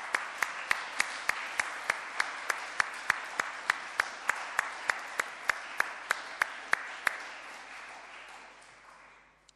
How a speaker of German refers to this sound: allen da oben auf der Orgelempore, ich möchte eigentlich heute sagen Posaunenchor-Empore, gilt unser ganz herzlicher Dank und auch der gesamte Posaunenchor Gehlenbeck bekommt nochmal einen herzlichen Applaus.